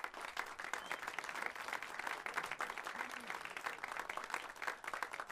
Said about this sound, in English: So could we have a round of applause for …?